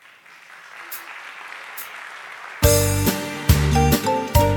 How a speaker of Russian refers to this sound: Пусть все аплодисменты сегодня будут для них.